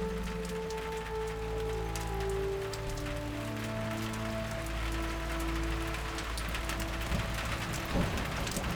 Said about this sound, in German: Regen setzt ein und aus der Ferne naht ein Gewitter.